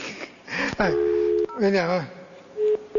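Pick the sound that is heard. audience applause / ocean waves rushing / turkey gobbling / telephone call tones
telephone call tones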